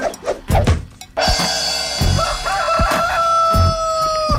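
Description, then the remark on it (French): A rooster crows loudly, one long drawn-out call that holds steady for several seconds after a few short clucks at the start. No one talks. “Je le pogne à chaque fois, le poulet. Exactement, le poulet est tout le temps là.”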